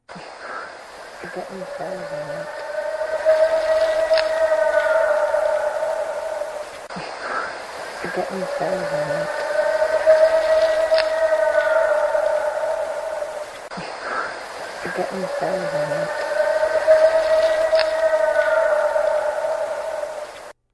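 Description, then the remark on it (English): A purported Bigfoot howl: a long, sustained, mid-pitched wail with rich harmonics, played three times in a row, each roughly seven seconds long and fairly loud, with no talking. “This is a howl. It's going to play three times on a loop.”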